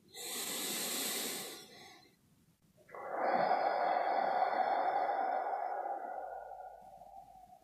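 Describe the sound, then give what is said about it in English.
Airy breathing, one of three breaths in and out taken to close a session: one slow, deep inhale, a brief pause, then a long, steady exhale that gradually fades. Nobody speaks. “Now bring our attention to taking three breaths in and out as a way of closing our time together.”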